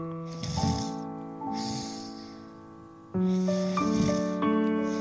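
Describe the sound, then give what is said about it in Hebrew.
A tiger snores: four slow, raspy snoring breaths, small rasps like little breaths, rise and fall at an even pace, moderately soft, over a steady bed of sustained musical tones. “הנמר התחיל לנחור. אלה היו חרחורים קטנים, כמו נשימות קטנות.”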